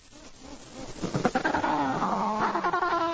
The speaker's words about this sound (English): It sounds like an agitated penguin, doesn't it? Yeah, it sounds like a bird. It does, a big bird. It sounds like a big bird.